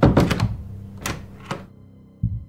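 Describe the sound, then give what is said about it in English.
A house door onto a porch shuts with a cluster of solid thuds, followed by two sharp metallic clicks of a lock turning and a final dull bump, with no voices. “I stepped onto the porch and looked around quickly, then closed the door and locked it.”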